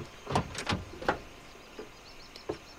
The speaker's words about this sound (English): He gets out of his car, walks around to her side, and opens her door.